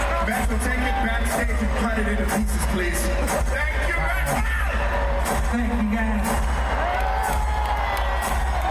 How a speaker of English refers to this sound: All right, so …, …, and the crowd goes crazy.